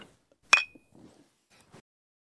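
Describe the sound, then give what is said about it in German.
A single bright clink of beer glasses, holding Regensburg beer, touching in a toast at 10 in the morning, sharp with a short ringing tail, followed by a few quiet rustles and faint handling noises. “dass wir zum Podcast gleich mal ein Bierchen in der Früh trinken.”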